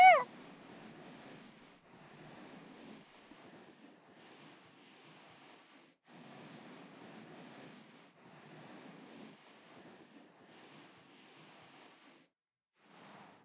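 animal, cat purring

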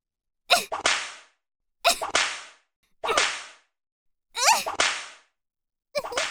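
impact, whip lashes

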